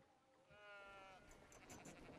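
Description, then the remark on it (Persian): A sheep lets out one wavering bleat lasting about a second, followed by scuffling, breathy noise and faint murmuring in the background. “وای گوسفندان.”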